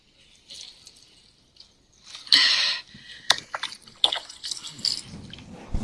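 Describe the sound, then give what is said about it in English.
A garden hose, just turned on by a woman watering the garden, sprays water in a loud hissing burst, followed by scattered splashes, drips and wet spatters that continue unevenly. No one speaks. “She turned on the garden hose.”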